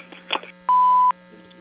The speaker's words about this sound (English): have reached Widener Construction. At the sound of the tone, please leave your name and phone number, and someone will get back to you as soon as possible.